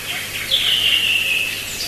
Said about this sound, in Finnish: Tämmöstä lintujen laulua täällä kuuluu nyt sitten vähän.